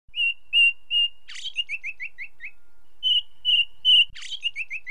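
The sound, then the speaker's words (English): A bird sings with no other sound: three clear whistled notes, a harsh buzzy burst, then a quick run of falling chirps, the whole phrase repeated twice. “Look at the birds, Adam.”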